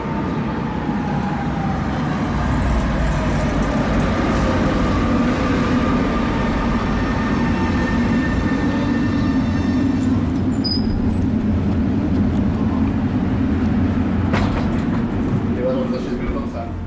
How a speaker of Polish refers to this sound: O, właśnie podjeżdża mój tramwaj, no więc wsiadam i jadę.